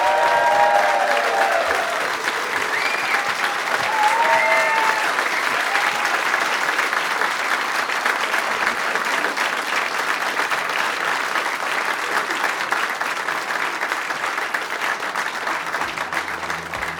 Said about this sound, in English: Ladies and gentlemen, please, a round of applause for Victoria Corin Mitchell.